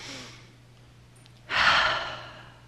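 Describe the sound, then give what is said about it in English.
A soft, airy breath drawn in with eyes closed, followed by a louder, slow exhale that rushes out and gradually fades, with a faint steady hum in the background. “We're going to close our eyes and breathe in God's light. And I want you to just picture breathing out any fear and anxiety you might have about this process.”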